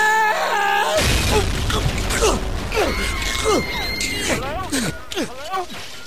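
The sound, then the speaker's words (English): After a short lead-in, a sudden loud burst of rough, crashing noise begins and carries on for several seconds. Voices groan and bellow through it, imitating a jet ski smashing right through the side of a ship. “Jet ski smashed right through side of boat.”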